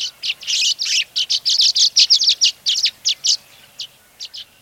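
Rapid, bright chirps and twitters from scores of violet-green swallows swirling and swooping as they arrive back from their winter homes thousands of miles to the south, a busy run of short high notes in quick succession, thinning to a few scattered calls at the end; no voices.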